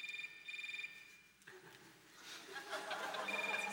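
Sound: mobile phone ringing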